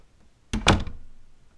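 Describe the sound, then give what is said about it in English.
A door shuts with a single solid thunk, fairly loud, its brief rattle fading into quiet room tone. No one speaks. “You really should lock that door, you know?”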